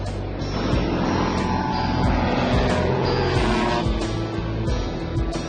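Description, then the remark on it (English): A steady, loud propeller-engine drone fills the whole recording, continuous with a low harmonic hum and a faint high whine, from a float plane descending the last 30 feet to touch down on water for a landing. “Going to be touching down right now. There's no water over by Collins, right? Yep. That's how you land the float plane.”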